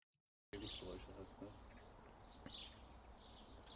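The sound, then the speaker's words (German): Birds chirp faintly in the background of an outdoor recording for a video course, over a steady outdoor hiss and rumble, with scattered tweets rising above the background noise after a brief silence at the start. “Da haben wir im Hintergrund so ein Grundrauschen, Vögel zwitschern und ähnliches.”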